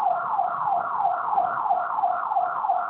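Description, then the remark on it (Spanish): A back door alarm at an OVNIA store branch (38883) wails continuously, its electronic tone sweeping up and down in a fast, regular cycle about three times per second, steady and loud with no voices. “Se activó una de las alarmas de la puerta de atrás.”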